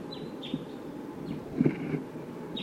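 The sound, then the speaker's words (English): Several short, high-pitched calls from wild birds responding to decoys, each a quick downward-sliding note, repeat at irregular intervals over a steady low rumble of wind, with a couple of soft knocks in between. “Birds closer now, I think.”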